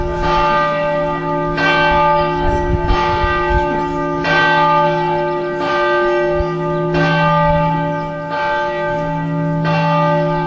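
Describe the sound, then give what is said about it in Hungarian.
A church bell rings steadily and loudly, with strikes about every one and a half seconds, each ringing tone overlapping the next in a rich, sustained peal with no voices. “Sekrestébe kérjük, hogy a harangot kapcsolják le.”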